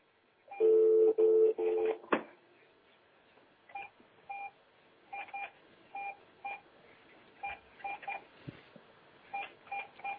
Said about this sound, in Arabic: لا لا سهل، اذا تسمع بالدق فاجب عليه سهل، اذا دق عليك التليفون فاجب عليه.